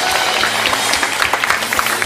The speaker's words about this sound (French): Est-ce qu'on peut juste applaudir bien fort nos internautes qui sont avec nous?